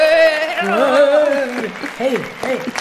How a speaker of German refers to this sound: Vielleicht sehen wir uns ja auch in einer unserer Fanzones. Ich übe jetzt schon mal das Jubeln.